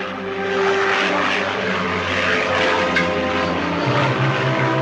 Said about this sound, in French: l'avion du capitaine Guérin prenait l'air pour tenter de retrouver l'appareil et survolait la chaîne frontalière franco-italienne